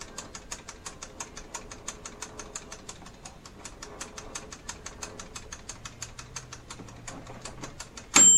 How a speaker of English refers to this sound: Some of them have timers that go up to 60 minutes, but that's what the timer sounds like.